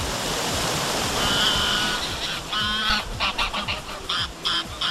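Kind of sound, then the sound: nature, flowing river water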